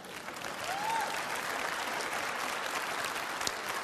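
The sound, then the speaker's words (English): An audience applauds steadily, a dense wash of clapping that holds at an even level throughout, with a brief whistle rising near the start. “Now, You can clap for that.”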